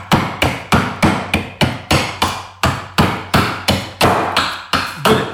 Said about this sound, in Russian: Сейчас буду изготавливать конька-каталку. Конек-каталка. Это тоже традиционная игрушка. Она делается полностью топорная. Вот, топором срезаем, срубаем на конус.